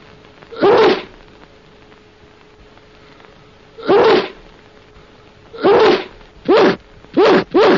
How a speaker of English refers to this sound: Now, handkerchief. Sneeze. Sneeze, handkerchief.